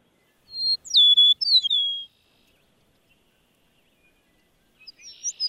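A clear, sweet series of slurred, descending whistles from an eastern meadowlark rings out alone, followed by a pause and the start of another phrase of the song.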